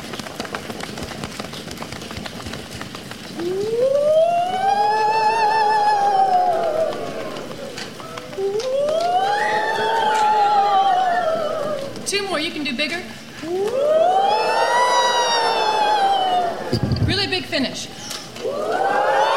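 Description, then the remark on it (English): A group of voices howls for the wind in three long, swooping wails that rise and fall in pitch during a group rain-rhythm exercise, over a steady pattering hiss like rain. “And then, of course, in the middle, we'll all howl for the wind to come, and then I'll cue you to all go to small raindrops for the end.”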